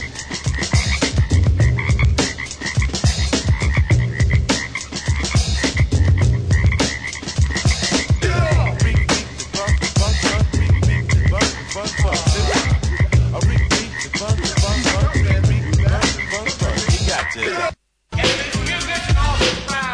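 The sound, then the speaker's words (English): A dense chorus of frogs croaks loudly and without pause, many overlapping calls pulsing, broken only by a brief moment of silence near the end. “Still hear the frogs dancing in the street.”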